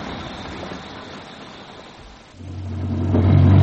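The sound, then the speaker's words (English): A car engine hums under a steady hiss of heavy rain while driving out of London, then swells into a deeper, louder low rumble as the vehicle accelerates over the last second. No one speaks. “Have you ever seen such weather? It's like driving through thick soup.”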